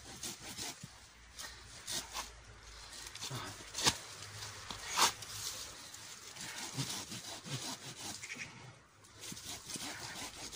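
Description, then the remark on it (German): A hand saw with a worn blade, frayed and jagged at the bottom, rasps through wood in repeated back-and-forth strokes, steady at a moderate level, with a few sharper accents along the way. “ist die Säge überhaupt noch gut?”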